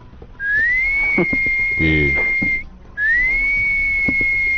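person whistling a tune

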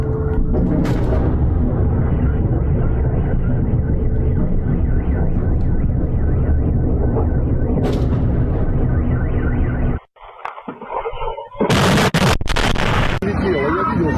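air raid siren wailing

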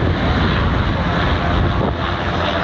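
police helicopter flying overhead

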